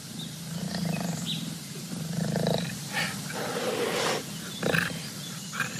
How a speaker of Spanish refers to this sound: A ver, ¿dónde estamos cuando escuchamos esto? A la orilla de un río, mientras tomaba agua, el monito escuchó los rugidos del yaguareté.